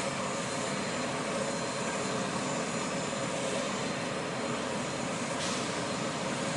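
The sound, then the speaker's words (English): A steady, loud aircraft engine roar fills the whole stretch, a dense even rumble and hiss with no breaks and no voices over it, from a plane that has landed, thought to have come from El Paso, as passengers are unloaded. “This plane landed 2 days ago.”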